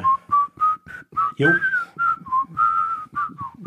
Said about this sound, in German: Ja, das habe ich schon verstanden, aber es kommt ein Pfiff in der Serie.